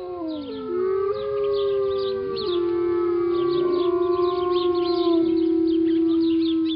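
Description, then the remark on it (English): Several wolves howl together in long, sustained, overlapping tones that rise and bend, forming a steady chorus with no talking. A faint high chirping flickers in the background. “Long before Manifest Destiny brought frontier settlers westward, before the Spaniards, before even the Apache and the Navajo and the Hopi, wolves roamed the arid Southwest.”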